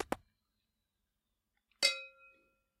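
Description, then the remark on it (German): Glasses clink together in a toast: a couple of quick taps at first, then after a pause one bright, ringing clink that lingers and fades, with no talking. “So, darauf trinken wir jetzt erstmal ein.”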